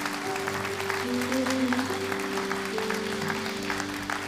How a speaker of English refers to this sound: Come on, let's clap our hands for God's word.